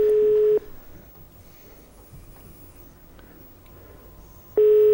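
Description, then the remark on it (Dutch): A telephone ringback tone from a call placed during a radio broadcast: a steady, loud electronic burst, then about four seconds of quiet line hiss, then the tone starts again. No one speaks. “Wacht, we moeten nog wel even opbellen.”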